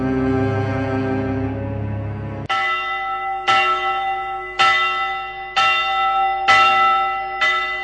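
Church bells ring out loud and clear, first a sustained resonant hum, then six evenly spaced strikes about a second apart, each with a bright attack and long shimmering decay, no voices.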